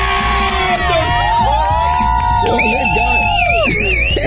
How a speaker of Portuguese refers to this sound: Eu acho mó barato que você levanta a mão, o pessoal começa a gritar, né? Você levanta a plaquinha, né?